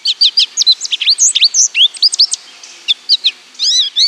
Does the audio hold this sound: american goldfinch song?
yes